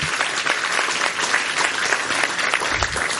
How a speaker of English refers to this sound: You'll get to hear from him in a little bit, but if you'll help me give him a round of applause as well.